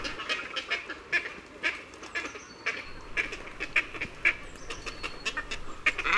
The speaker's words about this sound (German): Unser Vogel der Woche gibt nur selten Laute von sich. Dann eben in der Kolonie. Das klingt dann ungefähr so hier.